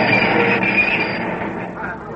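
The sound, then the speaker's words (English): A subway train rumbles and slows to a halt at the 72nd Street station, a high metallic brake whine riding over the steady low roar before the noise eases off near the end. “Now the train was stopping.”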